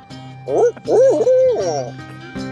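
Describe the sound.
An owl hoots loudly in a quick run of three rising-and-falling calls, with a steady low hum running underneath throughout.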